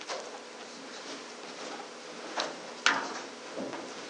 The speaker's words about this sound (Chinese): 好，如果没有的话，我们弟兄姊妹可以把前面的椅子摆一摆，围成一个圈，可以一起分享讨论。